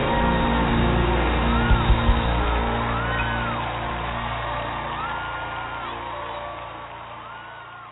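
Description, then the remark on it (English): A large crowd roars with cheering and scattered screams, a dense, loud wash of voices that holds steady and slowly fades over several seconds, with occasional rising whoops cutting through. “Now scream.”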